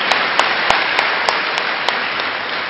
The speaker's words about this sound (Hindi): तो अपनी सेंचुरी लगाने की खुशी में जोरदार ताली बजाइए।